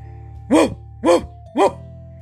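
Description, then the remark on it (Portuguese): A fierce, chained guard dog barks three times in quick, evenly spaced bursts, each bark loud, gruff and mid-pitched, over a low steady hum with no one speaking. “Latiu o feroz cão de guarda.”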